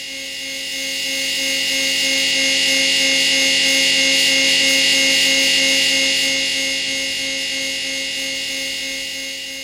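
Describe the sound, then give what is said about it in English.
A harsh, steady electrical buzz like an electric chair, a droning hum layered with hiss and bright whining overtones, swelling slightly louder midway and easing off toward the end, with no voices. “which is basically the buzz of an electric chair.”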